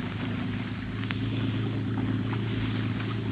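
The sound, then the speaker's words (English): A motorboat engine, opened up to full throttle to get away from something bearing down on it, drones loudly and steadily with a deep, throbbing hum that holds its pitch and volume throughout, with no voices over it. “Open her up and get away, Scotty.”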